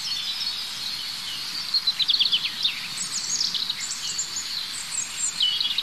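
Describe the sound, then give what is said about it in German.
Several birds sing at once, their high, twittering phrases overlapping and tangling over a steady hiss of insects or a chorus, moderately loud with no one speaking. “Vor allem dieses Vermischen der einzelnen Strophen unterschiedlicher Individuen.”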